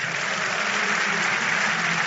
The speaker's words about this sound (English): Don't you think God deserves a bigger clap?